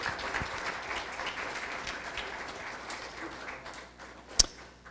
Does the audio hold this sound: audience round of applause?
yes